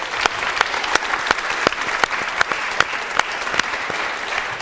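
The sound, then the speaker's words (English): A program's live audience gives itself a big round of applause, clapping steadily for several seconds, a dense, sustained round of applause with sharp individual claps popping out of the crowd wash, no talking over it. “We also want to thank our live audience for participating in the program. Give yourselves a big round of applause.”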